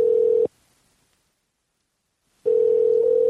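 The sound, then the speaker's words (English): A telephone dial tone while calling someone's phone and adding them to a conference call: a steady, mid-pitched electronic hum that sounds briefly, cuts out for about two seconds of silence, then returns at the same loud, even level. No one speaks. “Yeah, I'm calling you on your phone, Andy.”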